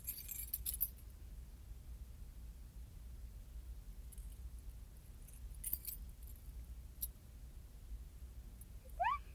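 Metal keys jingle and clink in a few short bursts as keys are taken apart and some are taken off, loudest at the start, with scattered small taps between over a low background rumble; no one speaks.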